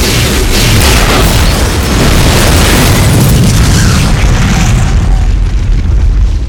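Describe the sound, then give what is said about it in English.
A truck explodes in a massive, sustained blast that roars with dense low-frequency rumble and crackling debris, staying loud for several seconds before the high end slowly thins out. No voices are heard. “The shower of glowing particles that had been the truck floated like little seeds of shrapnel back down to the blood-splattered, muddy ground.”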